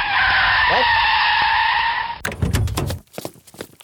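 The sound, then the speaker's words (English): A loud, sustained tire screech from a skidding unmarked minivan lasts about two seconds with a high, wavering squeal, then cuts abruptly into clattering, scraping noise and choppy bursts. “Gosh, it sounded, if I know my automobiles, and I am an automobile expert, that sounded like an unmarked minivan.”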